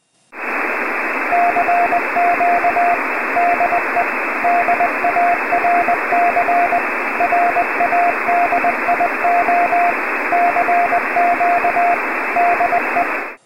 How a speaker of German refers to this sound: Die Morsezeichen waren doch gut zu hören, vielleicht etwas angerauscht, aber ansonsten lesbar. In diesem Fall war das Telegrafiesignal 5 Dezibel stärker als das Rauschen.